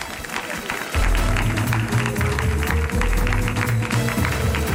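A crowd applauds with dense, steady clapping that keeps up loudly throughout, while music with a deep, pulsing bass line starts underneath after the first second.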